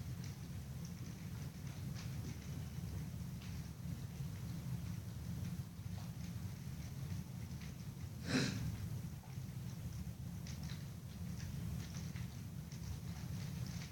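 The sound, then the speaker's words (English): Steady rain falls continuously under a deep, rumbling wash, with a single brief louder crack or splash partway through; no voices. “Allow yourself to listen to the rain.”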